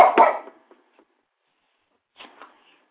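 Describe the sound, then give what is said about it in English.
A dog barks once, loud and rough, then after a two-second pause gives a quieter pair of short, quick barks. No one speaks. “My dog just started barking out of nowhere.”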